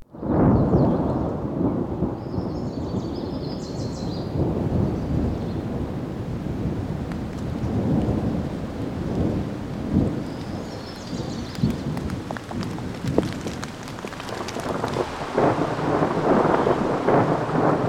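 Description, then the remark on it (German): A thunderstorm rumbles on continuously with deep, rolling thunder over steady, loud rain, with gusts of wind buffeting the microphone and no voices throughout. “Können wir noch bitte für Herrn Ritter mal ein zusätzliches Gewitter bekommen?”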